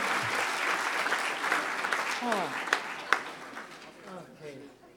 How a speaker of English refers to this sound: Give Johannes a huge round of applause.